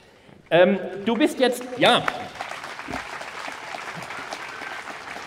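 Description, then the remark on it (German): A voice speaks briefly, then an audience applauds a guest thanked for coming, steady, sustained clapping, a dense even patter of many hands that continues at moderate loudness to the end. “Ihr klatscht ja nur, weil ihr kalt habt.”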